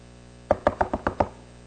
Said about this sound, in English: Well, not an hour later, Andy also knocks on Caleb's door.